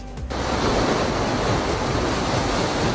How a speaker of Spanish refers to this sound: Hilo amaneció con gigantescas olas de más de 3 metros. El oleaje era tan fuerte que las embarcaciones ancladas en el puerto amenazan con volcarse. La plataforma del muelle fue inundada y la fuerza de las olas causó daños en la estructura.